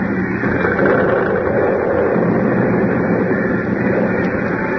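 A building, Harris Hall, collapses into a hole after its foundation was undermined, with a loud, continuous rumbling roar, dense and grinding, holding steady for several seconds with no voices over it.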